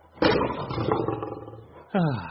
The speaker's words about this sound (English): 哎呀,不是的,其实这个音效和与电话有关的俚语没有任何关系. I just like the sound of lions roaring.